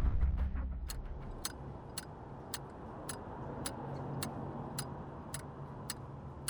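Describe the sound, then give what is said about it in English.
A metronome ticks at a steady, even tempo, sharp clicks repeating about twice a second over a low rumbling background hum, with no one speaking. “Ticking? Your metronome?”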